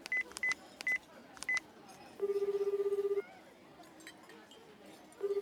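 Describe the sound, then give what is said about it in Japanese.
A quick series of short electronic keypad tones as a telephone number is dialed to call a costume shop, followed by a long ringback buzz, a pause, then the ringing tone starting again, with faint background noise. “とりあえずお店に電話してみよう。”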